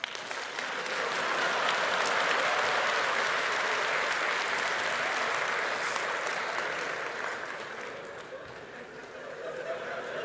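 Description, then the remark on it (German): An audience claps steadily for about ten seconds to vote among four options, a dense wash of many hands that swells early, holds, then thins slightly toward the end, with faint crowd murmur underneath. “Ich erkläre es kurz und dann dürft ihr gleich klatschen, ja?”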